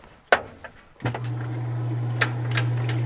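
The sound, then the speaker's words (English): A washing machine clicks, then its motor kicks on with a steady low hum, and scattered knocks and thumps follow as apples tumble around inside the drum, bouncing on the screws and being bruised in the spin cycle to make cider; no talking. “As the washing machine warms up, White explains what happens to the apples.”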